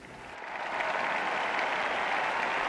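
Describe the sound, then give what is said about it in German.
Steady, measured applause from bishops and worshippers at a church service held on trade fair grounds, a dense even patter of many hands clapping that rises quickly and holds at a constant level without cheering or voices. “Es gab Applaus, nicht jubelnd, nicht langanhaltend, weder von Bischöfen noch von Gläubigen.”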